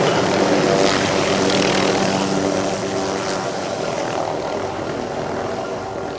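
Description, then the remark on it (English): A presidential helicopter from London roars loudly and steadily with engine and rotors, the droning whine easing off slightly over a few seconds as it comes in to land at Bristol. No voices. “I've come from London in the presidential helicopter to see my son Alex.”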